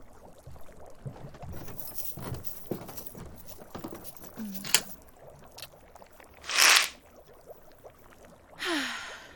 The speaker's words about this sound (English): What? No, don't be silly. I didn't lock the door. It's just a weird door that makes weird noises when you close it properly.